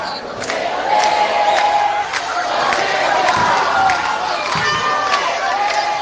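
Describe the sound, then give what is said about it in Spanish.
A large crowd of people, human-rights organisations and activists outside the federal courthouse chants loudly at Mazaferri, convicted of genocide and sentenced to 20 years, as the van carrying him leaves; many voices shout in unison with sustained tonal lines, sharp bursts of yelling rising above a dense, continuous roar. “saliendo la camioneta que transporta al genocida Mazaferri, y los organismos y los militantes presentes, la gente que se acercó hasta la puerta de los tribunales federales, les está cantando en la cara a este genocida condenado a 20 años de prisión.”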